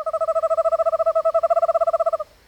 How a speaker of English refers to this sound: And even an eastern screech owl can sound creepy, though I tend to find them cute.